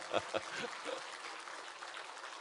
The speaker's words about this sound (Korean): 진짜 오늘 박수로 한번 우리 주님께 부활하신 예수님께 진짜 박수 한번 쳐 드립시다. 쳐 드린다가 이상하네. 올려 드립시다.